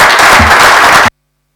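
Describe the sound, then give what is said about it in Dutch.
A loud burst of dense crowd applause thanking a departing colleague for her work, many hands clapping together in a steady wash of noise for about a second before cutting off abruptly into silence. “Applaus.”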